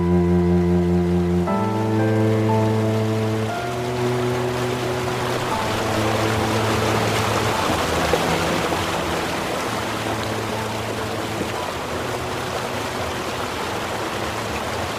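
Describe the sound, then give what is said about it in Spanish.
Steady rushing of the flowing Tormes river at Salamanca, Spain, fills the scene, a continuous hiss beneath sustained low musical tones that shift pitch in steps at first, then hold. “Y sobre todo nos señala el Tormes, el río que va hacia el Duero y hacia el Atlántico.”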